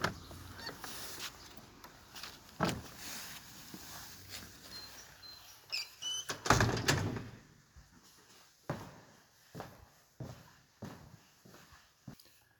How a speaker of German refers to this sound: Ich gehe nun hinein in unsere Kirche und schließe hinter mir die Tür.